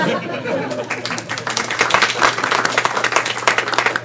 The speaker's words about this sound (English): We need to share that applause, yes.